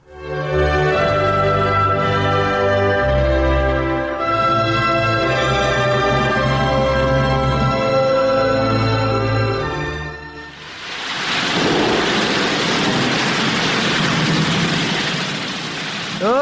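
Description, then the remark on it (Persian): In a drama, music plays for several seconds, then cuts to a loud, sustained roar of rushing flood water as a flood arrives, churning steadily to the end. “رالا بخی که سیل آمد.”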